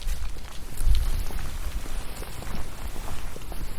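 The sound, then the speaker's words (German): Dry leaves on the ground rustle and skitter in the wind in a village in Brandenburg, Germany, with little traffic, a steady crackling patter with scattered sharp ticks over a low, blustery rumble. No voices. “Das Schöne, was ich jetzt hier gerade so finde, sind, dass man hier tatsächlich die Blätter auf dem Boden hört, wenn die sich vom Wind bewegen lassen.”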